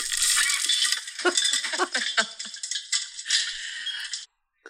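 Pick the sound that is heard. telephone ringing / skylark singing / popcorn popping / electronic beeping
popcorn popping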